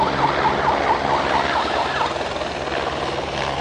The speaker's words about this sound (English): He's using that siren either to herd the wildebeest a bit, but he's also using it to indicate when people actually have to close the curtains.